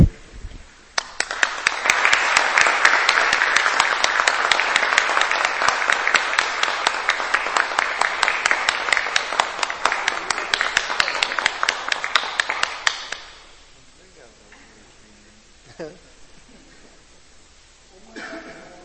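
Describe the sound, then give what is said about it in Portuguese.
A large standing audience applauds a doctor being honored at a ceremony, steadily for about thirteen seconds, a dense, loud wash of clapping that stops abruptly, leaving quiet with a few faint rustles and murmurs. “Gostaria que todos em pé pudéssemos aplaudir o doutor.”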